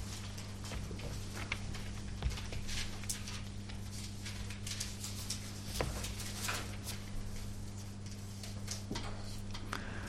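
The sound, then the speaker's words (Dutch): Soft paper rustling and crinkling as pages of a book are turned, with many small scattered ticks over a steady low electrical hum; no one speaks. “even kijken wat staat in Leviticus 24, een bladzij omslaan”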